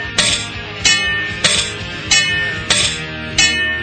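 The metal lid of a boiling kettle clanks and rattles as it bounces against a low ceiling, in a steady rhythm, six bright ringing hits about half a second apart, each with a short metallic shimmer, with no voices.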